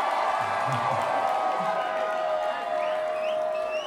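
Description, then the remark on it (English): An audience yells and cheers steadily throughout, a dense wash of many voices with a few higher whoops and whistles rising above it toward the end. “You're still yelling at me.”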